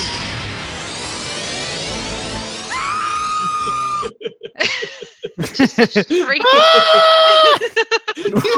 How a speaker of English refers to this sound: A shriek.